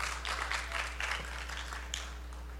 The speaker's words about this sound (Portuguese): Louve ao Senhor com palmas. Amém.